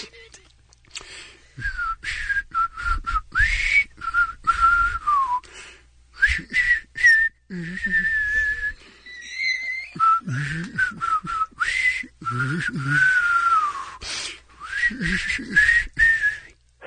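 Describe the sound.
A breathy, airy blow-humming of a song melody at a radio station, steady, carrying a whistle-like tune through a string of short and held notes for about seventeen seconds, with no talking.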